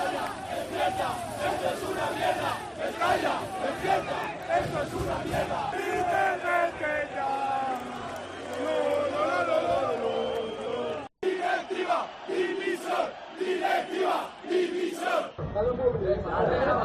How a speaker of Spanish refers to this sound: Claro, con estos números, con esta fotografía, con la imagen dada, con 5 defensas en Butarque para medirse al Club Deportivo Leganés y con un tiro a puerta en 90 minutos, al acabar el partido hubo bronca de la afición.